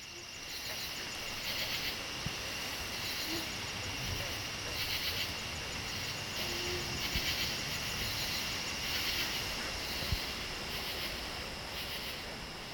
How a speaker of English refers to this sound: On to Pandapus Pond in the Jefferson National Forest in Montgomery County, where rain was accompanied by green frogs and mosquitoes.